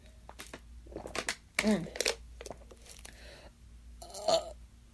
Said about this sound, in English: Ooh, baby burp.